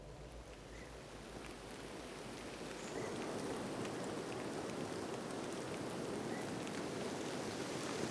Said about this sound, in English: It's a kind of a rainy, misty Sunday morning.